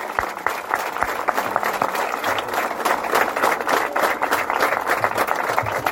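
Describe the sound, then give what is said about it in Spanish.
A crowd applauds steadily, a dense wash of many hands clapping at an even loudness through the whole stretch, with no voices standing out above it. The applause is for those in white tunics and the flag bearers at the opening of a CAIF centre. “Y que hayamos cantado el himno, y que estén presentes las túnicas blancas, y que estén presentes los pabellones que empiezan a retirarse, y les pido para ellos entonces un aplauso.”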